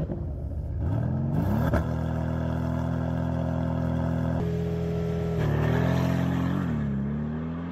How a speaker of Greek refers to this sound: Ο εξακύλυνδρος του αυτοκίνητου αυτού, είτε στην τούρμπο μορφή του, είτε και στην απλή μορφή του, έτσι, με τις βαλβίδες, είναι μουσική.